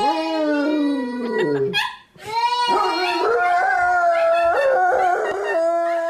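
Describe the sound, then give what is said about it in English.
Several dogs howl loudly in long, wavering, overlapping tones alongside a young girl singing, the chorus breaking briefly in the middle before swelling again. “Now we have some dogs who don't like this little girl singing.”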